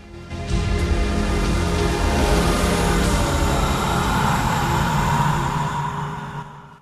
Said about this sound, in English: A freight train rattles along through the night.